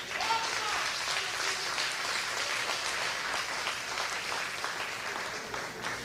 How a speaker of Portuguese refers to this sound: Pode aplaudir.